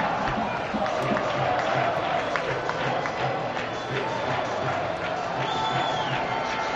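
A large stadium crowd at La Rosaleda in Málaga chants and shouts together, calling for coach Muñiz to go, after Extremadura's goal in Extremadura's 1-2 win. It is a steady, dense roar that stays loud throughout, with occasional sharper whistles and cries rising above the mass of voices.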